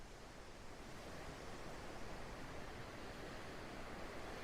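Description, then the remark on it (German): A steady, even wash of ocean surf rolling onto the shore, a continuous soft roar with no distinct breaks between waves. It plays alone, with no voices. “Und während du weiter dem Rhythmus der Wellen folgst, merkst du, dass auch an deinem Bauch- und Beckenbereich diese Ruhe des Meeres anfängt, sich auszubreiten.”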